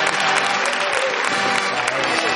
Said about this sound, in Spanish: ¿Hay pizarraca? Claro. La pizarraca, por favor. Con la pizarra, por favor. La pizarra, un aplauso para la pizarra.